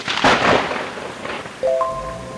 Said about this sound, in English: driving home right in the middle of a thunderstorm